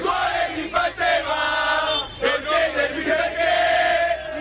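A large crowd of Napoli football supporters chants loudly in unison in the early morning, a few metres from the Palazzo Caracciolo, Real Madrid's team hotel in Naples, hours before the Napoli–Real Madrid round-of-16 second leg. Their massed voices form a sustained, tuneful roar with a few brief dips between phrases.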